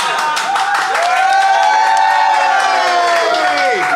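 audience clapping and cheering

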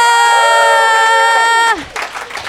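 audience cheering and applauding

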